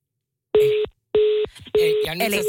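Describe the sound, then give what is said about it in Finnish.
Three short, evenly spaced electronic ringing tones sound clearly from an outgoing phone call, a repeated attempt to reach a woman. A voice begins talking over the last tone. “Ja nyt me koitetaan siis jälleen kerran soittaa hälle.”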